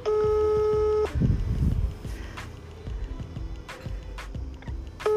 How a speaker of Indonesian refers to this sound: Salah nomor guys. kita telepon nih, kita telepon.